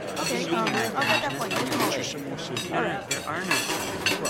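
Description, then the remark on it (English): Plates and cutlery clink and clatter steadily as dishes are collected from people, with scraping and chinking and overlapping voices murmuring throughout. “May I take your plate?”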